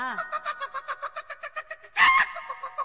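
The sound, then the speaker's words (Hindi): Hens and roosters kept in a coop cluck in a steady run of short, evenly spaced calls, followed by a louder burst of squawking near the end. No one speaks. “उ दरबा में मुर्गा मुर्गी ने रखले बई, जब खाए के मन करला तब एगो के काट दीना।”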